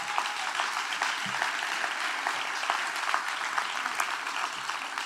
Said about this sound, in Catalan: Per tant, també un aplaudiment pels mitjans de comunicació i els locals.